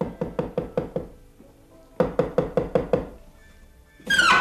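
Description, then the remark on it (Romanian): Two bursts of rapid, sharp knocks on the lowered wooden shutter of an office window, about five or six raps each, fairly loud, followed by a brief scraping or creaking noise at the end. “Pe când se șterge de sudoare, gândind la cine știe ce, aude ciocănituri la oblonul lăsat.”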